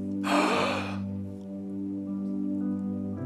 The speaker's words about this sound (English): That usher brought them in and seated them. You could hear a collective gasp